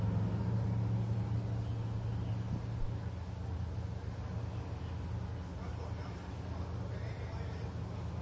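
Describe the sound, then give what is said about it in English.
Drag racing funny cars idle at the starting line while staging for a qualifying run, their engines a loud, steady, deep rumble that continues throughout, with a brief surge partway through. “They're getting ready to stage those funny cars.”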